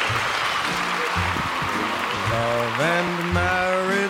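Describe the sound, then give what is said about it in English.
A crowd claps steadily in dense, sustained applause for the presenters, and partway through, music with a clear melody starts up beneath the clapping. “If we can have one more round of applause for our presenters.”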